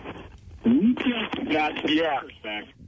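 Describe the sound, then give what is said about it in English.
A caller's radio plays in the background through a phone line, its tinny, band-limited voices and sound running steadily at moderate volume for a few seconds with no other clear talk over it. “turn your radio down.”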